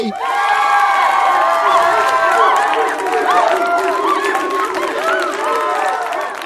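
A crowd cheers and whoops loudly over steady applause, many voices overlapping in high, excited shouts that hold for several seconds without a break.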